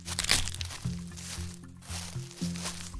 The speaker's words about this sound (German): Und da hören wir das Laub rascheln. Und das ist völlig richtig.